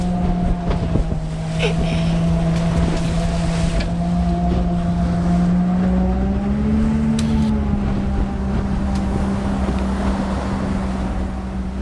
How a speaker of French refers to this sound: Maintenant que le matériel est prêt et que l'équipe est en place, il est temps de quitter la terre ferme. À bord du bateau, le paysage défile et avec lui, la pression monte doucement.